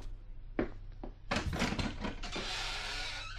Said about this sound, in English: Let me open the door for you.